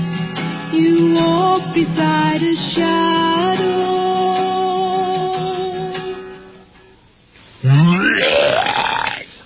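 A person vomits all over his shirt, retching and heaving with long, loud groaning sounds that waver in pitch, goes briefly quiet, then lets out a final rising gagging burst. No words are spoken.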